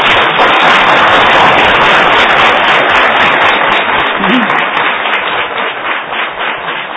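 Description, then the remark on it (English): Sustained audience applause for the presenters fills the whole stretch, a dense, steady wash of many hands clapping at even loudness, thinning slightly near the end with no voices over it. “Let's have one last round of applause for our presenters.”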